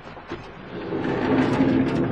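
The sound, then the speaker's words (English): A heavy door is forced open slowly, with a sustained grinding scrape and a low creaking hum that builds and holds for about two seconds. “No, no, shove in that door first. No. We open the door. More effort.”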